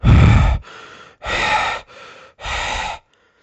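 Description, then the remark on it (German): Heavy, loud breathing into the microphone: three labored breaths alternating between deep, rough inhales and softer exhales, then silence. “Ach so, das Schnaufen.”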